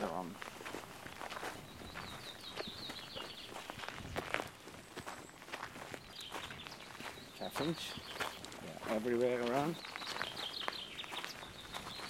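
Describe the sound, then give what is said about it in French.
Small songbirds, blackbirds and goldcrests in the Azores, trade high, thin trilling calls back and forth in short bursts over steady crunching footsteps, with a brief voice partway through. “Vous entendez les dialogues entre les oiseaux ?”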